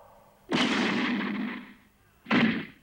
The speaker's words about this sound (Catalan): El mestre li clava dos cops secs al coll amb els cantells de les mans.